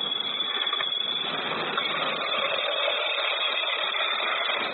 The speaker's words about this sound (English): That's Mr. Webb mowing his lawn like he said he was going to.